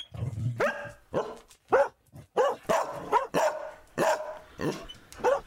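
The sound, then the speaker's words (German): Dogs barking repeatedly in quick, overlapping bursts, loud, with sharp yelps mixed in and no talking. “Kannst du die Hunde mal rausbringen, die nerven?”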